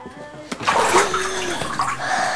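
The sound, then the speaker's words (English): Water splashes and sloshes in a bathtub as a person bathes, a sharp splash followed by a couple of seconds of churning, uneven movement, with faint voice-like tones in the background. “And keep your head out of the water. How can I wash my hair?”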